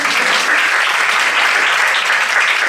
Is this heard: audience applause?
yes